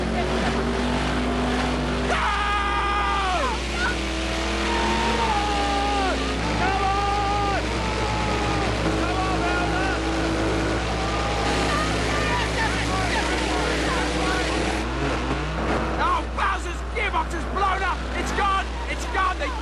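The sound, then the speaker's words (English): Several voices mimic revving car engines, their buzzing tones climbing and dropping in pitch over and over, loud, with the imitations overlapping almost continuously for about twenty seconds. “Start your engines.”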